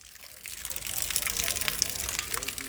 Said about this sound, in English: It's absolutely dripping with rain. You can probably hear the sound of the water dripping down off the tarpaulins, which are stretched over the market.